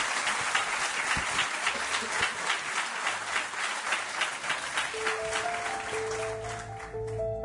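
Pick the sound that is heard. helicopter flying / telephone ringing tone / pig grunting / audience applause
audience applause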